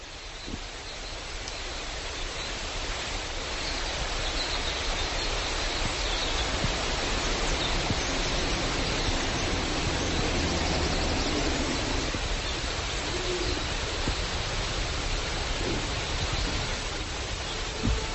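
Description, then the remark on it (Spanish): The Asón River rushes steadily, a dense, continuous wash of flowing water that stays evenly loud throughout, with birds chirping, no voices and no clear breaks in the sound. “Sobre el propio sonido del río Asón, que se escuchaba ahí, ¿no? Y los pajaritos y todo, digamos, el sonido de aquella selva, yo introduje una serie de sonidos grabados in situ con un sintetizador y con una flauta.”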